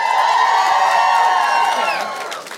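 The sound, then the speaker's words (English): An audience asked to make noise if they believe in the paranormal cheers and whoops loudly in a sustained burst of overlapping voices, with high shrill yells riding on top before the noise begins to fade near the end. “All right, so just curious, make some noise if you do believe in the paranormal.”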